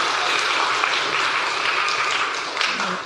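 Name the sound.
audience applauding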